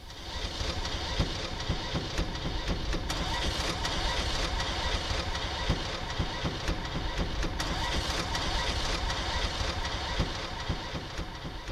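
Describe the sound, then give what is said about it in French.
A Citroën 2CV engine runs steadily and loudly, a rattly, buzzing drone with a low throb and occasional sharper clicks, holding an even level throughout with no voices. “Voilà, c'est un extrait de Faire la deux chevaux pour avoir du son.”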